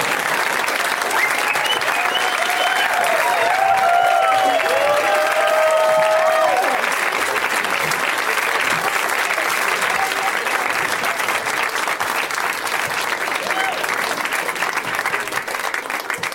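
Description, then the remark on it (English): Sustained applause from an audience as guests Paul Scheer, Rob Hubel and Dominic Monaghan come out fills the whole clip, a dense, steady clatter of clapping with some whoops and cheers rising over it in the first half. “You have to clap until they come out.”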